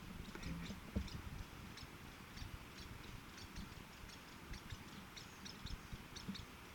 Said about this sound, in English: two Lewis woodpeckers chattering back and forth to one another.